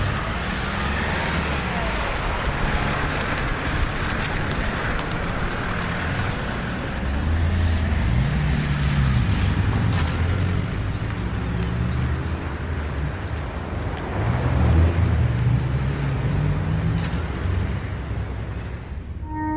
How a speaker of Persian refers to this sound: رامین و عقب یه ون سوار میکنن. مسئول پرونده هم عقب میشینه. اصلان خانی پشت فرمون میشینه. ماشین حرکت میکنه.